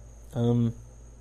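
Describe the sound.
A faint, steady high-pitched cricket trill runs through the whole stretch outdoors at night, briefly overlapped by a short voiced hum or vowel from someone.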